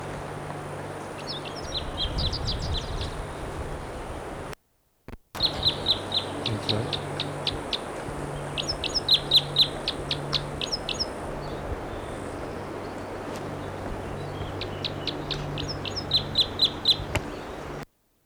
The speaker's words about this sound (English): Bird's right in the tree above the camp. And this is it. There's that bird again.